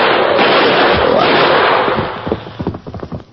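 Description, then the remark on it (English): A loud, dense rush of noise gives way to a rapid series of sharp gunshot cracks fired at a huge charging grizzly bear, several irregular bangs in quick succession with no talking; four bullets and two arrows hit the bear. “Two arrows, four bullets in them.”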